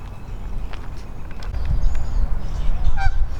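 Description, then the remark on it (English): A goose swimming on a pond towards the person recording honks, a few short nasal calls near the end, over steady low wind rumble outdoors on a warm, windy day with no one speaking. “And this goose is swimming towards me. He acts like he knows me. And he's giving me the honks.”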